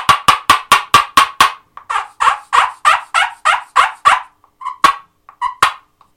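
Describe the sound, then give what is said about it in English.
An imitated turkey call used in turkey hunting: a fast run of sharp, raspy yelps that slows into a few spaced, scattered clucks, loud, with no talking. “You just do that. So you really have to learn a lot about turkeys.”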